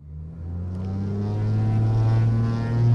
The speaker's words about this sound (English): At least 4 times a day, a Cape Air pilot fires up a 9-seat propeller plane in Hagerstown, Maryland, and takes off for Baltimore, sometimes with no passengers aboard.